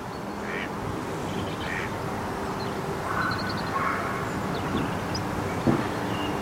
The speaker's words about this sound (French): Et j'entends des canards. Des canards qui font coin, coin, coin, coin. Vous les entendez ?